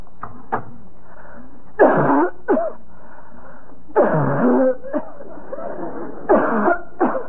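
A woman coughs repeatedly in harsh, bursting fits, several separate coughs spread out over several seconds, close and fairly loud, with no talking.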